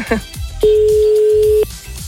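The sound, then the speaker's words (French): A single steady telephone ringing tone sounds for about a second, loud and clear, heard from the caller's end as a radio host calls a listener drawn at random in Verrières, Orne, Normandy, a call that ends at an answering machine, with faint background noise and murmur around it. “Est-ce que Romain va décrocher son téléphone dans un premier temps?”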